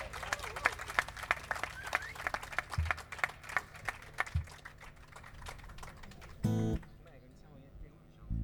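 Audience applause for a musician playing with the group for the first time: a dense run of sharp, irregular claps that holds steady for several seconds, then thins and fades out, followed by a brief low burst and near quiet.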